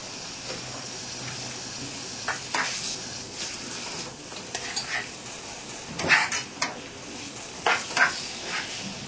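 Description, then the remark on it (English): A metal pot lid clanks and scrapes against the rim of a pot in a few short knocks as it is set ajar on one side so the pot does not boil over, over a steady background hiss of liquid still boiling after the heater has been turned off. “And if it's boiled too much, you have to put the cover on one side like this, yeah?”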